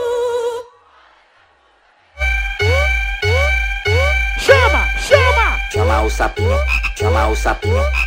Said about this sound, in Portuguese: Chama esse sapo, vai!